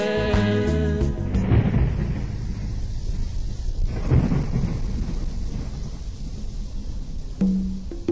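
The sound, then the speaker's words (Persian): Deep rolling thunder rumbles over steady rain, with a louder crack and swell midway through a stormy wash of noise. A brief musical tone fades out at the very start. “بارونم قصه رو فهمید، بارون گفت با رعد و برق هم میسوزونمش تا ریشه تا که آثاری نمونه دیگه از درخت و بیشه.”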